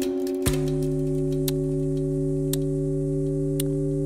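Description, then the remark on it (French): A clock ticks steadily, roughly once per second, each tick sharp and distinct over a constant low, droning tone that begins just after the first tick. No one speaks. “Là où ils entendent le tic-tac de l'horloge, la cocotte minute.”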